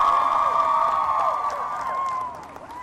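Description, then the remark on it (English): A crowd at a Vikings Huddle event at the Mall of America, with Osseo Junior High, cheers loudly for Vikings defensive lineman Everson Griffin, with sustained, wavering high-pitched whoops and shouts, holding steady for a couple of seconds before easing off slightly at the end. “Ladies and gentlemen, a Mall of America, Osseo Junior High round of applause for game-changing defensive lineman, Everson Griffin.”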